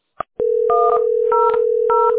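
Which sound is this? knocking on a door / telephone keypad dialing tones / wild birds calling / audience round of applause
telephone keypad dialing tones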